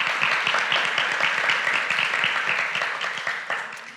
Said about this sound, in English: So can we give them a big thankful round of applause?